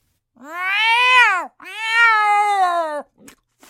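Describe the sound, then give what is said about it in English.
A cat lets out two long, drawn-out meows back to back, loud, each rising then falling in pitch, followed by a couple of faint soft clicks. “Wait, I just saw a cat.”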